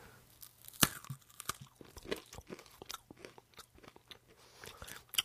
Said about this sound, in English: It's got almost like a very soft, like papery texture on the outside. Yeah, it looks like a wafer consistency in the middle. Yeah. So I'm going to take a little bite of this.